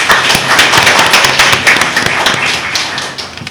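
An audience applauds to thank a speaker after his sermon, a dense wash of many overlapping hand claps at an even level that thins out slightly toward the end, with no voices.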